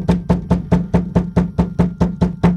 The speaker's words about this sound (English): The knocking continued with more urgency.